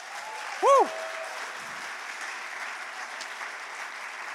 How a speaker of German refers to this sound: Deswegen jetzt nur an die Erwachsenen. Kinder, das ist für euch. Einen großen Applaus von den Erwachsenen für die Kinder.